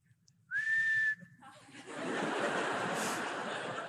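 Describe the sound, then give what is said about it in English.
A little girl whistles one clear note that slides upward and then holds steady for about a second, followed by a burst of breathy, rustling noise that sounds like soft chuckling. “And she whistled.”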